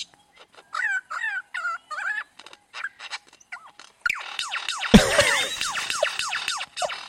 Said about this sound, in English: Sounds like a fun game. Sounds like dubstep, doesn't it? Sounds like a video game. This is one bird. That's crazy.